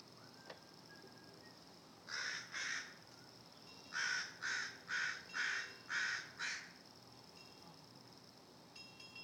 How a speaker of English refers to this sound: I know it's a little bit slow, but you can hear the little ones calling. Yep, there's a little nest of baby crows up here. And a protective mother and father.